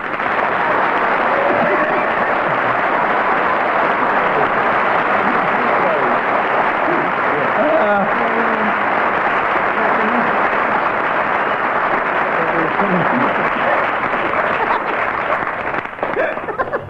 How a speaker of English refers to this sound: no less than 17 seconds of applause, plus a few indiscriminate shouts.